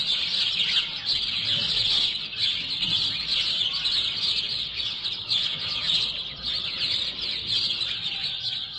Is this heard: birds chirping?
yes